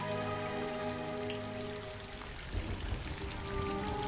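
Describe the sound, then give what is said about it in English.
Steady rain falls and patters on a hard surface, a continuous wash of drops with a faint sustained musical tone underneath that fades midway, as guards and princesses sit huddled beneath a rock wall. No one speaks. “Later, rain falls as the guards and princesses sit huddled beneath a rock wall.”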